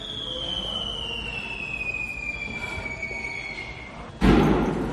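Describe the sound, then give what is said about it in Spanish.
A thin high whine drifts downward over a steady background hum, then a Tesla Cybertruck loaded with fireworks explodes near the end at a hotel owned by Donald Trump in Las Vegas, a single loud blast that keeps roaring and crackling afterward. No voices. “Es la explosión del todoterreno de Tesla, un Cybertruck que estaba lleno de fuegos artificiales en un hotel propiedad de Donald Trump en Las Vegas.”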